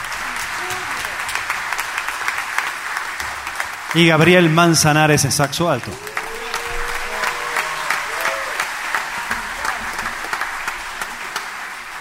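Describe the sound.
Sustained audience applause at a live music concert, honoring the pianist after the opening piece: a dense, steady patter of many clapping hands running throughout, while a man speaks briefly over it through a microphone partway through.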